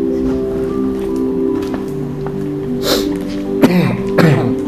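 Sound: cough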